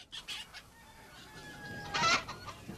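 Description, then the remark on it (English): Several chickens cluck and squawk in a hen house in short, uneven bursts, building to one loud, agitated flurry near the end before settling back to scattered clucks. No one speaks. “I mistook my way and fell into your hen house.”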